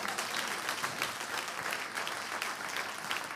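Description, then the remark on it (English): An audience claps for the Lord steadily throughout, a dense, even wash of many hands with no single beats standing out and no voices on top. “I thought you'd clap for the Lord a bit more than that.”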